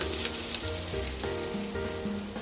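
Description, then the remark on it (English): Peppers, chicken thighs and chicken breasts sizzle with a little added oil in a wok heated on medium-high until smoking, for a stir fry: a steady, dense crackling hiss that holds at an even loudness throughout, with a faint low tonal hum underneath and no voices. “It's our peppers first, chicken thighs, chicken breasts. Add a little more oil to that.”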